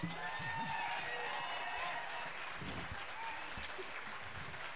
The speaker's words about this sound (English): Thank you guys so much. Another round of applause for them.